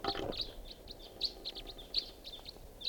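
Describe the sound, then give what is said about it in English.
A flock of crossbills calling as they fly over: a rapid, irregular series of short, high-pitched chip notes, moderately loud, with no talking. “Sounds like a flock of crossbills flying over here.”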